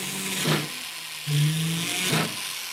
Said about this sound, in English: Lobsha drills a hole in a piece of silver, in which he'll later set a jewel.